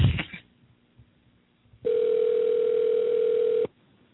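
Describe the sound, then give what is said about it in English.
A long, steady answering machine beep holds one mid-pitched tone for nearly two seconds at a loud, even level, then cuts off abruptly. A short burst of noise comes before it, with quiet in between. “You hear the beep? Do what you got to do.”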